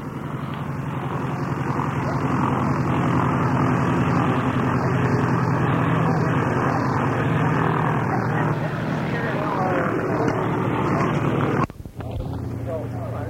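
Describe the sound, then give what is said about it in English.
A Cessna 195 propeller airplane taxies by, its piston engine a loud, steady droning rumble that holds throughout before briefly dropping out near the end. “Yeah, it's Cessna 195, taxing by.”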